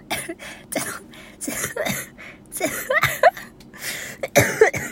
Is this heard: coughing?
yes